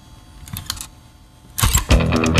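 A cassette is pushed into a cassette deck during a broadcast on the radio station Radioton: a few light plastic clicks and rattles, then a louder burst of clattering mechanical clunks as it seats, with no voices.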